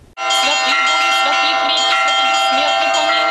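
Church bells in the village of Kuleshovka, Azov district, Rostov region, Russia, ring loudly and continuously to call residents to the Divine Liturgy, their overlapping metallic tones sustaining and layering into a dense, shimmering peal with steady strikes throughout.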